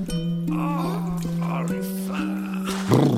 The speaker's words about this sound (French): C'est un loup. Le loup du début. Celui qui avait très très faim.